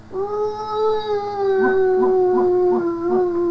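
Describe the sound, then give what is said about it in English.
A person imitates a howling dog with one long, steady, wavering "ooh" held for several seconds, fairly loud, with faint rhythmic pulsing sounds underneath in the second half. “Let's say howl too.”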